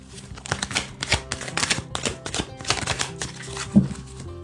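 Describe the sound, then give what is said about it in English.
A deck of cards being shuffled, a steady run of quick crisp flutters and soft slaps over about four seconds, with no voices. “Give one more shuffle.”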